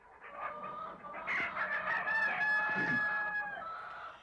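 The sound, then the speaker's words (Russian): A rooster crows with a long, strained call amid steady clucking from a crowd of hens, the whole poultry yard noisy, with no one talking. “Скоро добрались и до птичьего двора.”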